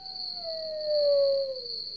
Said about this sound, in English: We've added some sounds. Mm-hmm. We're listening to them right now. Maybe a lone coyote.